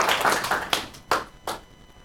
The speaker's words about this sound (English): So, round of applause for our lovely volunteer.